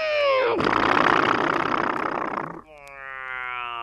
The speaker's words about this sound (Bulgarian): Чуй, мотора нещо трака!